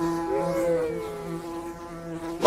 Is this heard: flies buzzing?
yes